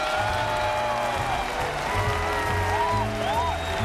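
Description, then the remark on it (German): A crowd cheers and claps steadily for a few seconds, a dense wash of applause with rising whoops and shouts layered on top, loud throughout. “Hol dir den Jubel.”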